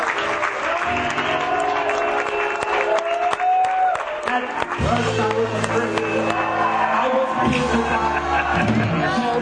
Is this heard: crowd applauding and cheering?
yes